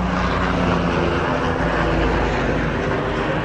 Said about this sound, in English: I hope you don't hear this plane in the background. Give me one sec.